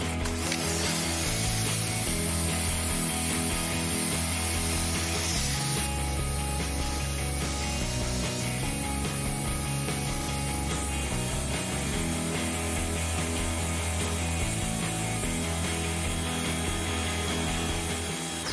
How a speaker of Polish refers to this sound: Co by było, jakbyśmy dużą masę wody rozpylili w takim mroźnym powietrzu? No, masa wody, weźmiemy ją może z takiej lancy od Karchera.